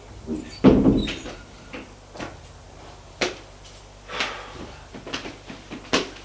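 A man opens a door in a corridor: a heavy thump early on, then a series of sharp latch clicks and knocks spaced over several seconds, with no one speaking.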